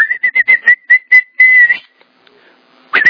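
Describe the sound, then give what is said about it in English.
A person whistles as if calling a dog: a quick series of short, chirpy call notes, then a longer held whistle, a brief pause, and one more sharp burst. Loud, with no talking. “In that day the Lord will whistle.”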